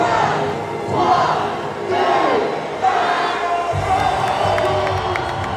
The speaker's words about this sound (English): Just before 9 p.m., everyone's eyes were on the start where blue neon signs spelled out the numbers 2024. The music blared. The crowd roared. Then the countdown.